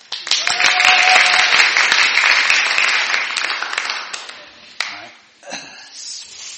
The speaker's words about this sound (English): Up in the balcony in the middle. Do you want to come down? Excellent. Round of applause, please, for our next taste tester.